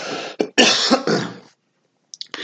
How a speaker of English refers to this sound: Pardon me, I'm going to cough once.